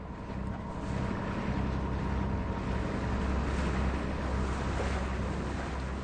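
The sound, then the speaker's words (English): A boat engine drones steadily beneath rushing water and wind buffeting the microphone, a constant loud wash with no voices, recorded aboard a boat on a river in Burma transporting food to communities. “His report describes how he has been helping the team to transport food to communities by boat.”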